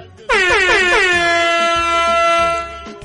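air horn blast

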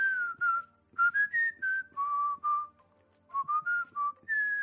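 whistling

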